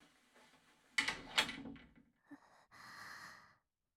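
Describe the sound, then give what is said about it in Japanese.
A door is handled and pushed shut, with a sharp knock-like thud followed by a second impact, then a softer hiss of movement trailing off, with no talking. It is the door of a room in a shop, closed by a customer. “ドアを閉めていただけますでしょうか。”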